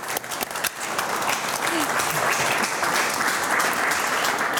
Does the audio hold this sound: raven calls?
no